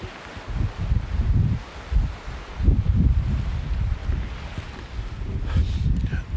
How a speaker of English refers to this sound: I'm sure you can hear. It's really windy. But I am on the usual location where I usually come to record these podcast episodes. You can probably hear the wind and the sea at the background. I don't know if you can hear the sea, really.